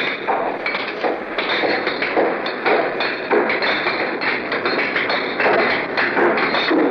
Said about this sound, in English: That's when workmen showed up beneath our window to begin hammering. Lee Bland, who was operating the CBS wire recorder, flipped on the machine to give you an idea of what a sleeper has to compete with in the steaming morning of Manila.